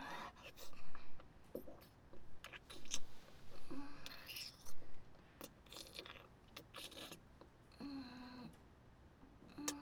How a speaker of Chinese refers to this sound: 姐正在教你怎么用钢笔，声音比较大，如果吵到图书馆的其他人就不好了